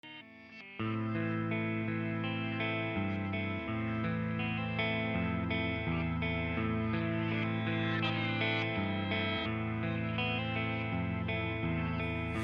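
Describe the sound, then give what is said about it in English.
A song's instrumental intro kicks in after a brief, quieter opening: loud, sustained distorted chords over a steady low bass line, full, with no voices. “Alright, so why don't you introduce the song?”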